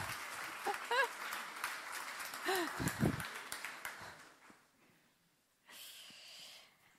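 A burst of audience applause lasts about four seconds, mixed with a few voices, then fades. A shorter, softer patter of clapping rises again briefly near the end.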